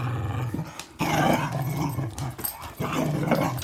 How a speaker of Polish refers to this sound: Ale szarpie. No co? Prawdziwy pies myśliwski.